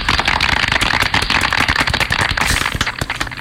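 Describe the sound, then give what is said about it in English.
A crowd claps steadily to welcome Allied Security as sponsor of the Morning Maroons, dense overlapping hand claps forming a loud, crackling wash of applause with no talking, thinning slightly toward the end. “Please clap.”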